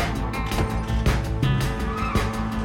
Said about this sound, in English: Outside the impound, Monday hops into his car and screeches away.